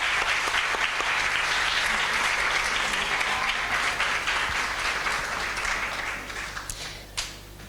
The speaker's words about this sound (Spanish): De nuevo, un aplauso grande para las seis.